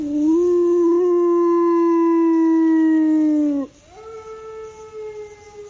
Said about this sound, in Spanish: Pues sí. Es el aullido de los lobos ya en la provincia de Cáceres, en concreto en la parte más oriental de la Sierra de Gata.